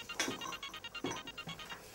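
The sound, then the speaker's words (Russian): A mobile phone rings with an incoming call from a husband, a quick, repeating electronic melody, its bright beeping tones pulsing in a steady pattern at a moderate, fairly quiet level, with no voices. “Опять муж звонит.”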